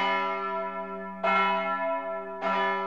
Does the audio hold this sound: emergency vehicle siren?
no